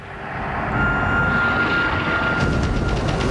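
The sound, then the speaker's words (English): A loud, steady airplane engine roar with a faint tonal whine as the plane flies through a storm, building over the first half second and then holding as a dense, continuous drone with no voices. “knows the plane can't take much more of this.”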